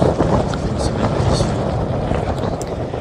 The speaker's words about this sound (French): On entend dans les bourrasques de vent